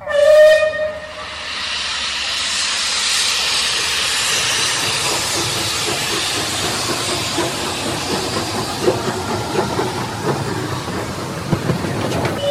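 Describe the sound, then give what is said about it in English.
A steam express locomotive that hauls trains on the Spar Valley Heritage Railway gives a short, loud whistle blast, then a broad, steady hiss of escaping steam continues for several seconds, with faint mechanical clatter underneath. “One of the locomotives that hauls trains on the Spar Valley Heritage Railway has been renamed to honour Polish pilots who served with the Royal Air Force during the Second World War.”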